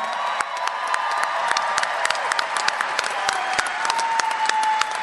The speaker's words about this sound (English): How about a big round of applause for our Marines?